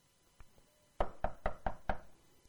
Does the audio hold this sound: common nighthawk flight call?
no